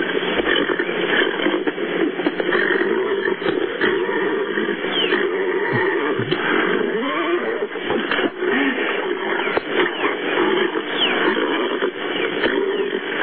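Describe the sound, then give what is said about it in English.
Continuous, muffled animal vocalizing, with grunting and roaring sounds consistent with a horse, mixed with a woman's voice. The whole recording is dense and loud with a thin, radio-like tone. “There's a horse in there.”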